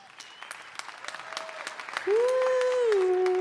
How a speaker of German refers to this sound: Jetzt euer Applaus für Christian, der gerne begründet dargelegt hätte, welche Kinderspielserie wir synchronisieren würden. Euer Applaus für Christian!